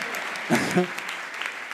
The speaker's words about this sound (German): Du kriegst ja viel mehr Applaus als ich.